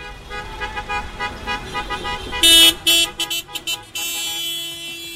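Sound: car horns honking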